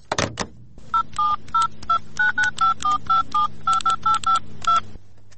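An office telephone receiver clicks up, then a quick run of about fifteen keypad dialing beeps sounds in an irregular rhythm, clear over a faint line hum, with no one talking, as someone places a personal call.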